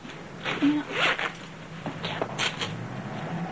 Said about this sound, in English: Mrs. Baker zips up Jill's blouse.